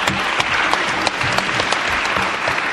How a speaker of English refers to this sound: Thank you to the IAS for making this session possible, and a special thank you to our interpreters. We have sign language interpreters in both languages here, as well as the CART, so I think that they all deserve a very big round of applause.